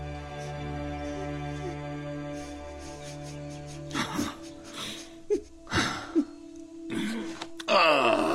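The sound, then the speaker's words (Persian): A person moans and cries in several halting, breathy bursts with gasping intakes between them, over a steady low droning tone that fills the first half. “آره گریه کن، دیگه وقتش رسیده بود که پوچی شرایطتو درک کنی.”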